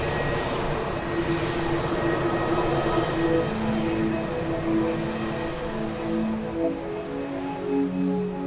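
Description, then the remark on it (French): A Swiss Airbus A330-200 (A332) airliner taking off, rolling and gaining speed before rotating, bound for New York: a steady, loud engine roar with a deep rumble and whining tones that slowly shift in pitch, continuous throughout with no voices. “Voilà, voilà, on assiste au décollage de l'A332 Suisse. On a un avion qui est en train de rouler, qui prend de la vitesse et puis qui va maintenant faire sa rotation.”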